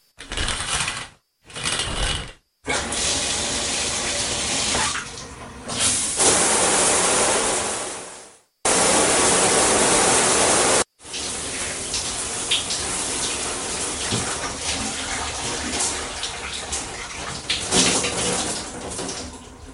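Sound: shower running water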